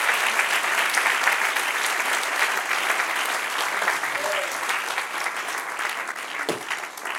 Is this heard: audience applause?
yes